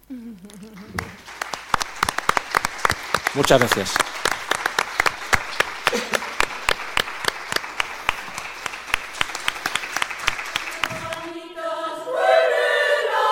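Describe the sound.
An audience bursts into sustained applause for a student who stands up, dense rapid clapping lasting about ten seconds, with a voice speaking briefly at the start and again as the clapping ends.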